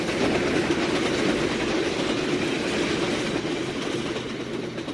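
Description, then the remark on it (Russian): The third express train thunders past, flashing, a loud, continuous roar with rapid rhythmic clatter of wheels on rails that stays steady for the whole stretch, with no voices. “И прогремел, сверкая, третий скорый поезд.”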